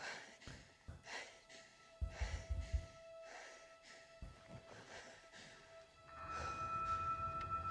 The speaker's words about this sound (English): It's Rey, if you're an audio listener. She's in the desert. She's breathing.